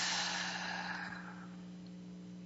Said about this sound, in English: So I'd like to take 3 deep breaths in and out, and feel free to join me if you like. And I'm taking a deep breath in and slowly breathing out through my mouth.